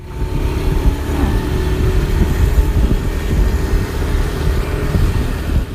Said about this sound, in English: In a fleet of mopeds of varying color and model, the Muda Mudi arrive at the Wantalon and park their vehicles, making conversation with one another as they approach the stage of the outdoor performance space.